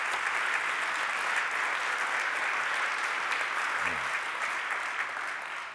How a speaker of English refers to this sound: Let's just give our band another round of applause just for them.